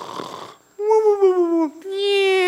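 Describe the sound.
A group of people imitates snoring on cue, acting out Jesus sleeping in the boat: a raspy, breathy snort followed by two long, drawn-out vocal groans, fairly loud, with no actual talking.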